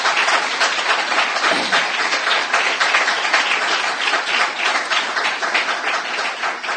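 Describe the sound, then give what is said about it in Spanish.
A church audience applauds the Lord steadily for several seconds at the start of a service, a dense, even wash of many hands clapping at once with no pauses and no one speaking over it. “Vamos a comenzar dándole un aplauso al Señor porque Él es el anfitrión.”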